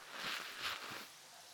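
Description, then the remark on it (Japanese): Soft fizzing and crackling of shampoo foam close to the ear, swelling twice in quick succession before settling into a faint, steady hiss. No voices. “多分あなたがいつも使ってるシャンプーとは違うと思うけど、シュワシュワーって音しない？”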